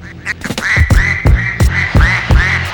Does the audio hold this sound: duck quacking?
yes